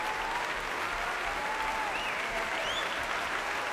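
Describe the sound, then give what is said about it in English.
Steady, sustained applause from a large concert audience for soloist Zimmermann, conductor Daniele Gatti and the Mahler Youth Orchestra after Berg's violin concerto, a dense wash of clapping with faint whistles or cheers rising over it. “Hands high in the air as Zimmermann claps the orchestra and takes a bow just alongside the conductor's rostrum.”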